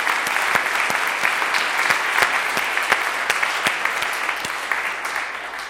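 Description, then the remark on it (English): A crowd in a lecture room applauds steadily after a keynote about Qt and PySide, a dense wash of many hands clapping at even loudness for several seconds, with sharper individual claps popping out of the texture and no voices. “A big applause to you and to your keynote.”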